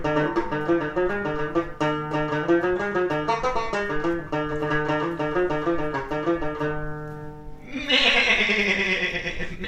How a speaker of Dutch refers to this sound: Er staan ineens allemaal bokjes en geitjes en... vrouwtjes om je heen. Nee, en de bokjes zijn allemaal voor de gouden herfstbok.